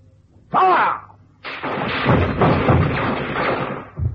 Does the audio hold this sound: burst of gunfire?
yes